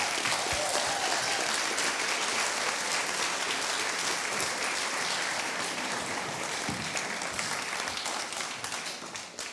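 crowd, audience applause

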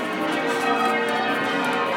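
ambience, cathedral church bells ringing

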